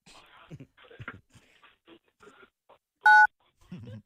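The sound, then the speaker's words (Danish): A single loud telephone keypad tone for the digit 1, pressed on a phone call to hear a message in Danish, one short, steady beep about a quarter second long, preceded by soft muffled voices and followed by a brief low murmur. “for at høre denne besked på dansk, tast 1.”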